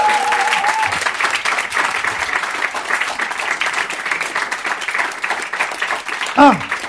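audience applause

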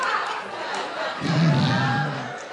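studio audience cheering

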